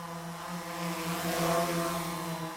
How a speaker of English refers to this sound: Depending on the weather this year, I would figure noon is about the right time to check for the humming sound denoting that someone in your neighborhood is now a drone flyer.